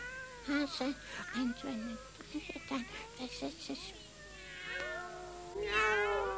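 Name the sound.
cats meowing and caterwauling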